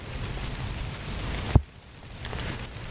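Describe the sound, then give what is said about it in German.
Steady rain hisses with a dense, even patter. A single soft thump cuts in midway, then the rain carries on slightly quieter. No one speaks. “Da sage ich, das kann jetzt aber nicht sein, weil ich merke hier doch ganz deutlich, dass es regnet.”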